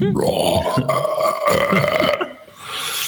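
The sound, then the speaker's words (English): A long, loud, drawn-out burp lasting about three seconds, rough and croaking, made by a person's voice imitating a character's huge burp that casts a Thunder Wave spell in a tabletop game, trailing off at the end. “What you see him do is he takes in a lot of air, going like, and he lets out this incredibly loud burp.”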